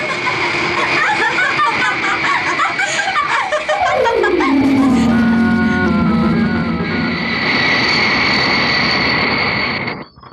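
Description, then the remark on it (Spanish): A powerful jet airplane engine roars steadily with a high, whining tone as the jet flies at night above the clouds; partway through, a pitched sweep slides downward before the loud, continuous rush carries on and cuts off at the end. “Qué tranquilo está la noche y tranquilo es el vuelo del jet poderoso que se ha colocado por encima de las nubes y ha dejado atrás el peligro.”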